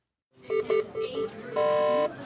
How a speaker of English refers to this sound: Alarms echo through the busy hospital units of the Children's Hospital of Philadelphia. Amplified by computers at the nurses' station, the noise is relentless.